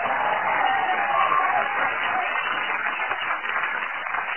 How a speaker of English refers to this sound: I'd like everyone here in the comedy store to clap and cheer wildly to give her a great welcome and to irritate everyone listening at home with their transistors pressed their ears.